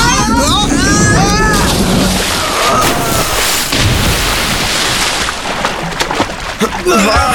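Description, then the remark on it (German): A boat lurches and crashes down into harbour water, a loud, sustained rush of splashing and churning, with excited voices briefly at the start and again at the end. “Oh, das Boot fängt an zu schaukeln! Festhalten!”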